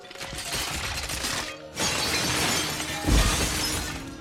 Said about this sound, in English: Flint bangs his head against the bowl. It shatters and collapses around him.